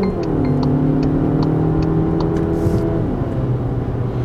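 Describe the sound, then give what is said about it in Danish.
From inside a hybrid car's cabin, the petrol engine kicks in as the driver presses the accelerator and the car quickly picks up speed: a steady, continuous drone with faint periodic ticking on top and no voices. “Men nu træder jeg på speederen, og så er den der selvfølgelig med det samme. Og det tager altså ikke lang tid at komme op i fart.”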